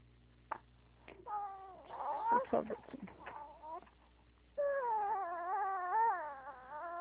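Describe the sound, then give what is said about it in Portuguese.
A four-month-old baby girl who had her vaccination today cries, starting with a few short fussy bursts, then breaking into longer wavering wails that swell and sustain loudly toward the end, at home. “É um porque bebezinho, pelo jeito, né? é a minha filha, hoje ela tomou a vacina daquela de 4 meses, sabe?”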